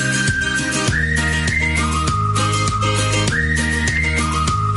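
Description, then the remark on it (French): A clear, bright whistled melody from a country song by a duo rides over a full band backing with steady bass and drums, sustained notes gliding between pitches, loud, with no talking. “puis on va siffler avec eux autres dans un instant”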